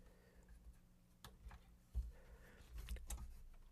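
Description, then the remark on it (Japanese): Several sharp plastic clicks and a soft clunk as a cassette deck's eject button is pressed and the cassette tray pops open, fairly quiet with no voices. “まずイジェクトボタンを押しましてカセットのトレイを開きました。蓋の部分に A 面を上にしましてカセットを入れました。”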